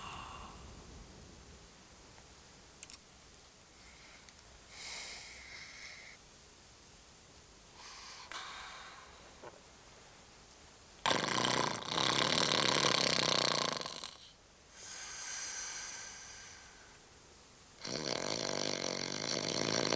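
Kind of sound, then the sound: human body sound, man snoring loudly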